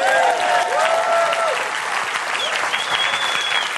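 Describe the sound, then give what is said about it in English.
A crowd breaks into steady, dense applause, with scattered cheers and whoops rising above the clapping, loud and sustained throughout, cheering the news of another group of baptisms next month. “Yeah, that's worth a cheer.”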